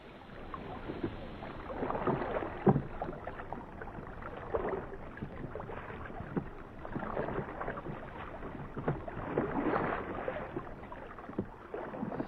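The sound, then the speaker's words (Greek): Oars of a small boat dip and pull through water in darkness in a steady rowing rhythm, each stroke a soft splash and swirl, with faint wind and lapping water in between and no voices. “Πιάστε τα κουπιά.”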